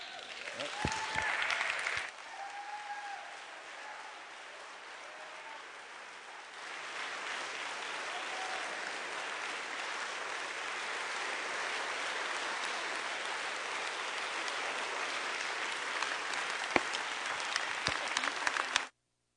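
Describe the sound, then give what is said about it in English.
A crowd gives a round of applause for a young man, clapping steadily for close to twenty seconds, a dense wash of clapping that swells after a brief dip early on and stays loud until it cuts off abruptly at the end. “give another round of applause to the young brother.”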